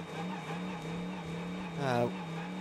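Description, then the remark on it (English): The number 57 Tekamet-sponsored Winward Racing AMG, the GT Daytona leader, held on the pit lane speed limiter in the pits drones at a steady, low, rough pitch, briefly flaring upward in a quick rev before dropping back to the same constant buzz. “Sounds awful on the pit lane limiter, doesn't it?”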